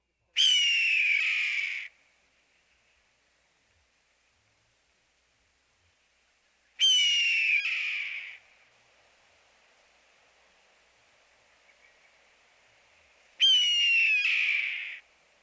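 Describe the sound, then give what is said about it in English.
A red-tailed hawk gives three husky, descending screams, each about a second and a half long and evenly spaced several seconds apart. They ring out loud and clear, with quiet hiss between calls. “The red-tailed hawk's call is a husky descending scream.”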